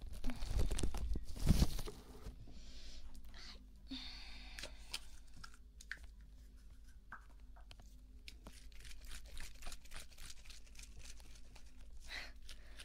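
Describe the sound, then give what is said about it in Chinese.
Plastic cling wrap is pulled and torn, starting with a loud ripping burst and followed by a long run of quieter crinkles and sharp little snaps. No one speaks. “可能是听到我那个就是撕保鲜膜的声音，然后可能猫我的耳朵了，比较灵敏，现在还瞪着眼看我”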